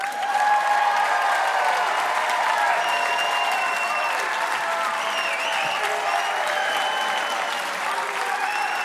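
audience applause and cheers

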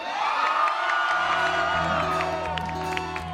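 crowd screaming and cheering

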